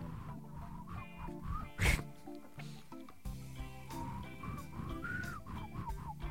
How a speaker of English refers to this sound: I can whistle like this too. This is as high as I can get. That's a tongue whistle. And I can go.